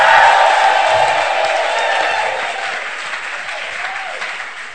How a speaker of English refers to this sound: Somebody clap those hands. Give God a shout.